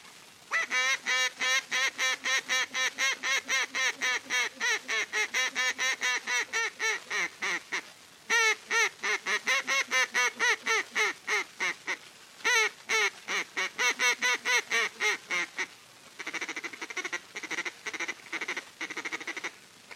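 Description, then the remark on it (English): Duck calling done near the Mertazine River at Fontana, Kansas: long, rapid runs of loud quacking notes, broken by a few short pauses into several bursts, the last stretch slightly softer and more even. No one speaks. “Here's duck calling is done near the Mertazine River at Fontana, Kansas.”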